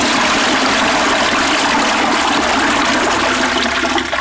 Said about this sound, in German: Siehst du diesen reißenden Fluss? In ihm ertrinken Menschen, wenn sie ihn überqueren.